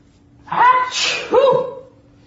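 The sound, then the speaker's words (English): A person sneezes, a sharp breathy burst with a quick inhaled lead-in and a second catch of breath, loud against an otherwise quiet background. “You're sneezing a lot”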